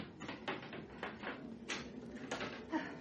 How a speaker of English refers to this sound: Good heavens, can't you hear that shutter? It's come adrift. Oh, I'll pull it closed.